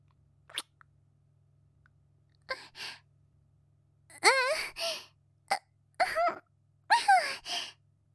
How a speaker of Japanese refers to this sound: 咳